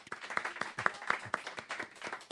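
An audience applauds steadily, a dense wash of many hands clapping at once, with a few sharper individual claps standing out in a quick rhythm.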